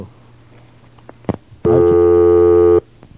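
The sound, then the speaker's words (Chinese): A telephone line rings once during a radio call-in program as another caller waits: a loud, steady electronic ring lasting about a second, preceded by a couple of faint clicks over a quiet background hum, with no one talking. “哎，哦，多一通电话去要等伊吼。”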